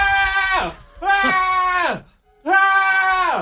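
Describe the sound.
A voice imitates anguished screaming, like someone giving birth: three loud, drawn-out wails in quick succession, each sliding down in pitch at the end, with brief pauses between them.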